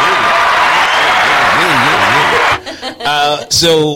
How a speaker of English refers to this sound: So I actually started writing the book in 2018. Okay. And I published it in 2020. Let's give you an applause for that.